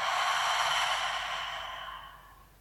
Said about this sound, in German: Gemeinsam atmet ihr ein und aus.